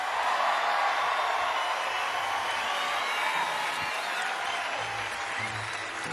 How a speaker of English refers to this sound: Listen, hang on to that applause.